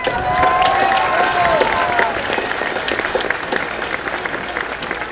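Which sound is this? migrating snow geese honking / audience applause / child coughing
audience applause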